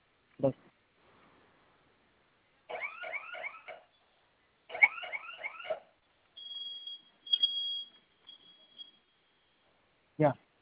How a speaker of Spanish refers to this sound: Listo, se silenció. Esa alarma que está sonando en un momento se va a silenciar, ¿ok?